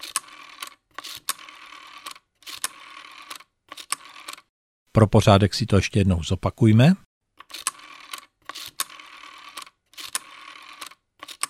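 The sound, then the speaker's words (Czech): The mechanical dial of an ordinary telephone from about 40 years ago, when numbers were dialed by hand, is turned and spins back again and again, each return a brief whirring run of rapid clicks. Several dialings come before and after a short spoken phrase. “Podle vrčení a hrčení koleček je to jednoznačně zvuk mechanický, ale má to souvislosti spíš elektrické a komunikační, protože se jedná o mechanický číselník obyčejného telefonu z doby zhruba před 40 lety, kdy se ještě jednotlivá čísla vytáčela ručně”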